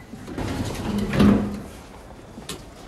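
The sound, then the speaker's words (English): Lift doors slide open with a soft, rising whoosh that peaks briefly before fading, accompanied by a low steady hum, as a salesman, an old woman and a guard step in. There is no talking. “A lift opens and the salesman lets the old woman in first.”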